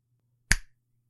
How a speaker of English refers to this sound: When you snap your fingers, I will go into a deep trance.